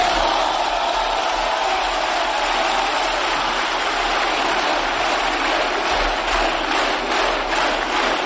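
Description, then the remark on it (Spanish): Sustained, dense applause from PSOE and Sumar deputies in Spain's Congress of Deputies after the confidence vote investing Pedro Sánchez as prime minister, at a steady loud level, with rhythmic clapping growing more distinct toward the end and shouts of "presidente, presidente" blended in. “Aplausos de los diputados del PSOE y Sumar, aplausos acompañados de gritos de presidente, presidente, para celebrar que habrá nuevo gobierno de coalición”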